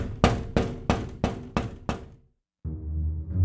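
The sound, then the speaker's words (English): Six sharp, evenly spaced bangs on a window, loud in a quick steady rhythm, then a brief silence before a low, sustained rumbling sound. “The pig bangs on the window.”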